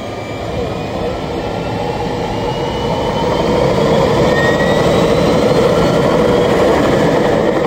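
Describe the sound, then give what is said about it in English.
An aircraft engine in flight over savannas, rivers and rainforest in Colombia drones steadily and loudly for the whole stretch, a dense, unbroken roar with faint high whining tones drifting through it. “We fly over savannas interrupted by milky yellow rivers.”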